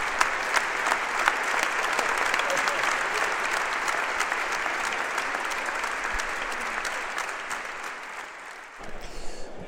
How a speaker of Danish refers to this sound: Og nu kommer Mads P. faktisk ind ad døren. Mads Pedersen, masser af mennesker på Rådhuset i København, og han kom ind sammen med overborgmester Frank Jensen til, som man kan høre her, store klapsalver.